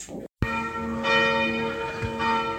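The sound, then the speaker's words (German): A church tower bell in Wienhausen strikes a single loud chime, its rich harmonic tones ringing on and slowly decaying; a fainter second strike seems to follow. Nobody speaks. “Das ist übrigens das Pech, wenn man neben dem Glockenturm wohnt, der hier in irgendwie noch nicht vollkommen klaren Abständen immer noch einzelne Schläge macht, fast alle Viertelstunde.”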